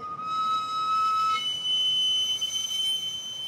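A piercing steam whistle from a street vendor's pushed sweet potato cart, powered by a little wood fire that steams the potatoes, shrills steadily and unbroken, jumping to a higher pitch partway through, over a constant background hiss of street noise.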